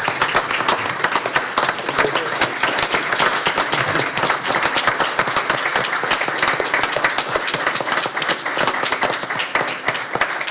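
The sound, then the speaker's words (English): A sustained round of applause from a crowd at a commission meeting, applauding a commissioner at his last budget, many hands clapping in a dense, steady patter that stays loud and even throughout, with faint voices mixed in. “How about a round of applause for the commissioner?”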